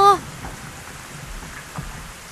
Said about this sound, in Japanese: 夏が来て土砂降りの大雨が何日も何日も続いた。